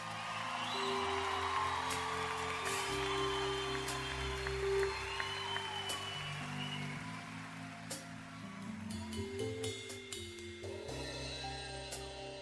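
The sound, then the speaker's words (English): A crowd claps steadily and lets out scattered whoops and cheers for the musicians on stage while the band keeps playing sustained chords and a shifting bass line underneath. “Everybody give a big round of applause to all the musicians on stage.”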